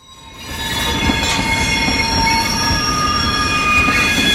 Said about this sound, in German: Wow, das ist eins der fiesesten Geräusche überhaupt. Ein Zug, der quietscht.